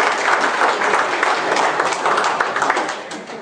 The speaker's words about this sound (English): Give moms another hand of applause.